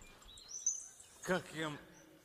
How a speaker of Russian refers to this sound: Как я рад вас слышать. Ой, вы всегда вот не лажаете, ни капельки. Всегда помните свои напевы. Ой, дождь пошел, птички, слышите? Дождь пошел и прошел.